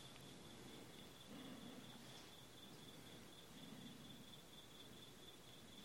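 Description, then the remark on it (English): Crickets chirp steadily in the background of a Dharma talk, a continuous high-pitched trill, fairly quiet, forming an unbroken nighttime background with no talking. “So give the crickets a little say here.”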